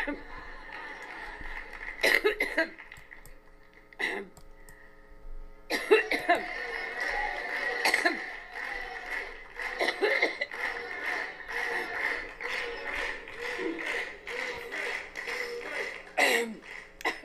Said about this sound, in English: Okay, she's back. Here we go again. Hillary Clinton coughs uncontrollably at Mansfield College requests water. What is wrong, Hillary Clinton?